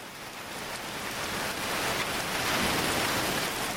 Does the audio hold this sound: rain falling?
yes